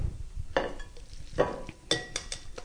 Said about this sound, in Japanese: さあ、きれいに和えることができました。じゃあ、これをお皿に盛り付けて